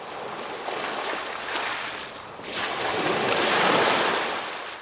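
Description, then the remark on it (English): Surf rolls steadily onto a beach on the far east side of Port Townsend, on the northeast point of Washington State's Olympic Peninsula, a broad rushing wash that swells louder midway as a wave breaks and spreads, with faint wind in the background and no voices. “We are on the beach.”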